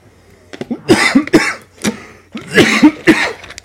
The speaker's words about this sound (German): Ja, und ich habe schrecklichen Husten. Also schrecklich viele Leute, die ihn hören, mich stört er nicht. Haben viele gerade, der geht ja auch gerade wieder rum.